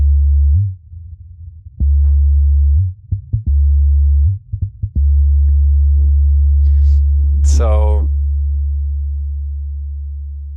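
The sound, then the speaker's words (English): A steady, low synthesized hum generated by a mass-spring physical model with just one mass and one link, running in a Qt application, drones for the whole clip, a pure sine-like tone that fades slightly at the end, with brief clicks and a short spoken word over it. “But just a mass and one link doesn't sound that musical.”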